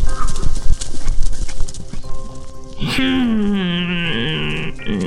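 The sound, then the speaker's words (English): Goat hooves clop steadily across a hard surface toward a bridge for a few seconds, then a loud, drawn-out animal cry with a wavering, falling pitch takes over. “Soon enough, Sasha came stomping along. She got to the bridge and looked around.”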